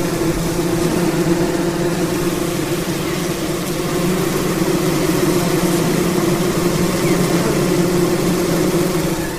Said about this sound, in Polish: Dłoń z mikrofonem niemal wkładam w pszczeli rój.